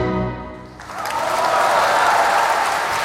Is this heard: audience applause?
yes